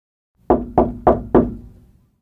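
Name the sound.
knock on a door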